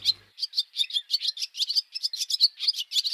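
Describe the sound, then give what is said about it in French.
Small birds chirp in a rapid, continuous series of high, bright notes, steady for the whole stretch, with no one speaking. “Oh, il y a des petits oiseaux. Si on allait les observer.”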